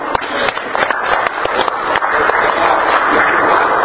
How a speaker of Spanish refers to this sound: Otro aplauso.